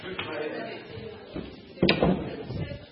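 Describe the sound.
Chairs scrape and clunk as two chairs are moved and set down to make the house of Rahab in a re-enactment of the Jericho story, with a few scattered knocks and one sharper, louder thud, while indistinct voices murmur in the room.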